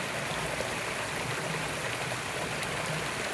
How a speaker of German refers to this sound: Und bemerke, was dieses Plätschern dir in diesem Moment sagen möchte.